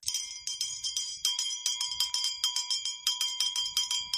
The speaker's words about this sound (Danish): Jeg skal lige teste, for jeg tror faktisk, jeg har fået en klokke.